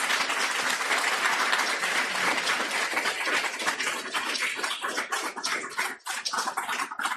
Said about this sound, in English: So let's do that, and let's also give a big, big round of applause